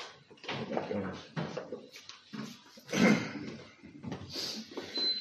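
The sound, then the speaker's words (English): A door is pushed shut over a cord tucked behind it, with a series of muffled thumps and scraping rattles, the loudest knock about midway through, followed by lighter shuffling and a faint high whine. “Make sure that cord is tucked behind the door so it don't fall out.”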